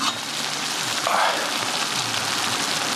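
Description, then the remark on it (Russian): Water boils inside a samovar with a steady, dense bubbling hiss that keeps an even loudness for the whole three seconds, like a light, continuous patter. “Кипит.”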